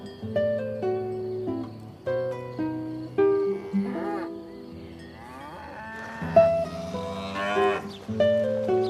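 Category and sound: animal, cow mooing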